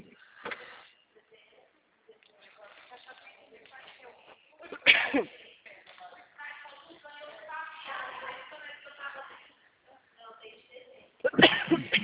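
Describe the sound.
A person coughs loudly and close by, two sharp bursts several seconds apart with a fainter one at the start, while a voice talks quietly in between.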